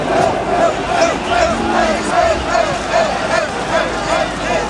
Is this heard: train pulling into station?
no